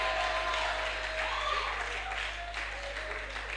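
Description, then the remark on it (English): A large crowd at a church service claps and shouts together to the glory of God, a dense, steady wash of applause mixed with raised voices, loud and sustained from start to finish. “I want you to acknowledge that faithfulness of God by a good shout and a good clap to his glory.”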